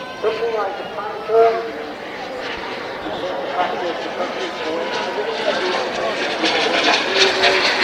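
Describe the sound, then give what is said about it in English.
A steady, roaring whine of model jet planes passing at a large model flying exhibition and trade fair at RAF Cosford, swelling slightly toward the end, with indistinct voices murmuring in the background. “So we're just watching some model jet planes go past.”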